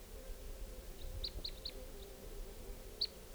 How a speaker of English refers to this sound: It's 626, and I've lured in a flock of about four type 2 crossbills, and they're perched up in a tree above the net area. And they're way up there. Stop. Recording, the flock is calling a little bit from the treetops.